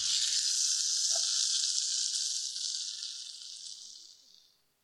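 Sausages sizzle in a frying pan, a steady, bright crackling hiss that holds for a few seconds before gradually fading away to silence. No voices.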